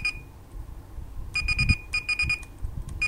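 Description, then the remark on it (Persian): An electronic talking alarm clock, which announces outside and inside temperature, goes off at its set time of 6:06 a.m.: a faint steady high tone gives way to rapid bursts of shrill beeps in groups of four, repeating over a low background rumble. No one speaks. “آلارم آن 6:06 صبح من تنظیم کردم. دستگاه به صدا در میاد و دمای بیرون و داخل رو اعلام میکنه.”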